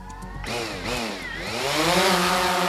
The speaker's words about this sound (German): Neben Maisfeld und Landwirtschaftsstraße, irgendwo im Herzen der Schweiz, liegt eine Modellflugpiste. Eine kleine Gruppe hat ihre Modellflieger und Drohnen mitgebracht. Die ersten sirren bereits in der Luft.